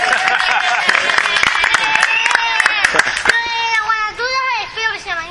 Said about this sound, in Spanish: Muchas gracias. Venga. Un aplauso, chicos. Un aplauso.